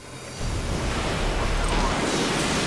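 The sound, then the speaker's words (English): A Tomahawk missile bursting up out of the water: after a brief quiet moment, a loud, dense rushing roar kicks in suddenly and holds steady, with a watery, surf-like hiss and no voices. “As it breaks out of the water, the Tomahawk starts an amazing transformation.”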